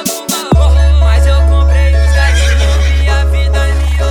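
A horse whinnies loudly with a shrill, quavering call, set over a heavy, steady bass drone and dense music that fills the whole stretch.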